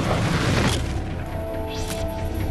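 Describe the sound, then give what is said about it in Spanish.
A single loud, booming pistol shot right at the start, followed by a long reverberant decay and a faint whooshing sweep a moment later. No voices. “Oye una detonación, pero no la identifica como un disparo.”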